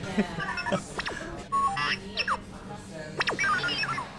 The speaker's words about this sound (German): Auf der Theke steht ein blinkender und piepender Roboter, in dem Star Wars-Kundige natürlich R2-D2 erkennen.